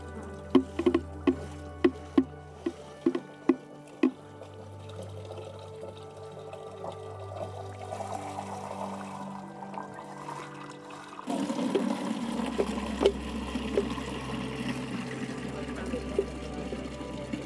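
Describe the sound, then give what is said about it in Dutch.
Water pours into bottles to collect 22.4 kilos of water, the amount in a 32-kilo person's body, in a steady, gurgling stream, opening with a few sharp clicks, then swelling into a louder, fuller rush partway through, its tone shifting as the bottles fill. “Nou, we gaan 22,4 kilo water verzamelen.”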